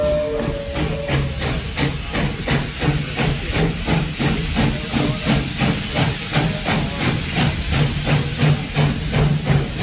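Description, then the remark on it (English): A narrow gauge steam locomotive coming up behind the camera in Carson, Nevada hisses steadily, with rhythmic chuffing pulses beating through a continuous loud wash of steam and a low engine rumble underneath. “Slim Princess is coming up behind the camera.”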